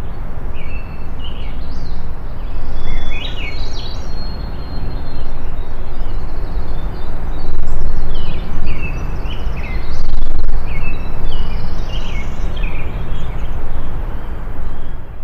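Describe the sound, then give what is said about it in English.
Numerous birds sing and chirp over one another in a boreal forest in Ontario, short bright phrases layered across a steady, hissy forest backdrop with a low rumble; no voices. “Okay, a lot of birds competing there.”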